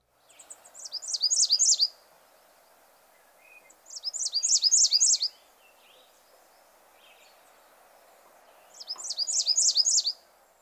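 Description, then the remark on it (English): American Redstart song: three clear, high-pitched phrases of rapid, repeated two-note chips, each about a second long and spaced a few seconds apart, over a soft hum of background ambience. No talking. “The Redstart also has a two-noted song which is similar to the black and white warbler.”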